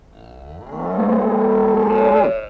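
A single long, drawn-out cow moo, loud, rising at the start and then holding a steady, throaty tone for a couple of seconds before cutting off.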